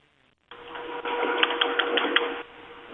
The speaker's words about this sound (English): This typing is very scary.